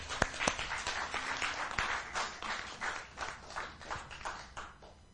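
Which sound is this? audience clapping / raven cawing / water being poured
audience clapping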